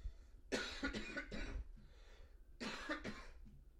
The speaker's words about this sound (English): I haven't been coughing all day, and now all of a sudden I'm coughing. Probably because I'm talking and haven't talked all day.